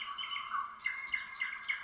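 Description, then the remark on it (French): Multicoloured birds chirping and singing in quick, repeated bursts, several short bright calls overlapping, with a soft steady background and no voices. “Tu vois des oiseaux autour de toi, des oiseaux multicolores.”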